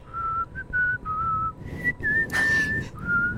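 A person whistles a short melody of sustained, fairly high notes with brief gaps, clear, with a soft breathy burst partway through and no talking.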